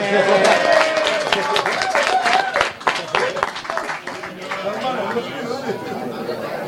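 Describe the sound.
An audience breaks into a burst of dense, brisk clapping that fades after a few seconds into a murmur of crowd chatter and scattered voices.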